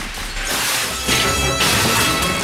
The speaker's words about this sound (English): The glass doors to the museum are locked, so Edwards shoots them.